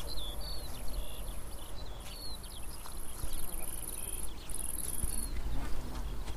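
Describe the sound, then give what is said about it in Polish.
Bees and bumblebees buzz steadily over a lavender field, a constant insect hum with a high, shrill drone on top and faint outdoor background noise, with no one speaking. “Pszczoły, trzmiele, nawet przylatują bardzo dużo motyli, co widać zresztą, różnych i ćmy nawet.”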